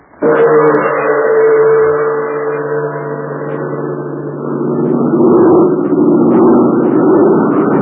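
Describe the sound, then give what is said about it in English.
Jude Hennick's large American-made propeller airplane, flown for the Chinese Army, drones steadily overhead on a flight to a remote spot many miles from Chongqing, its deep engine roar loud and continuous, dipping slightly before swelling again as it passes by. No voices are heard. “Yes, that's Jude Hennick's big American-made plane.”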